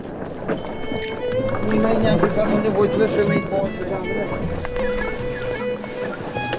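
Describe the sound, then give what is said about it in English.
A mainsail being hoisted on a 23-foot gaff-rigged sailboat while it is rigged for a race: steady rattling and creaking of rigging and squeaky blocks over wind and water, with indistinct voices murmuring in the background. “We'll have to lift the mainsail here and then the jib to make sure everything's ready.”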